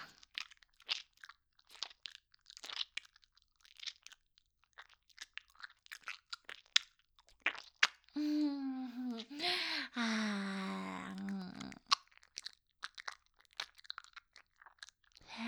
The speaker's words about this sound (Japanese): 口の中、カミカミするね。